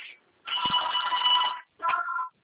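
signal or alarm, telephone ringing

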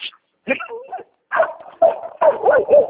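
animal, dogs fighting

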